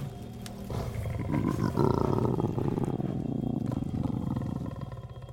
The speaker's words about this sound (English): There is a low growl deep within his chest.